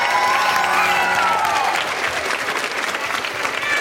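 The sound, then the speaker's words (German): Steady, dense applause from a crowd, loud, with a few scattered cheers and whistles rising above the clapping early on; an audience at the Potsdam Festival applauding the finalists of a quiz show. “Großen Applaus für euch.”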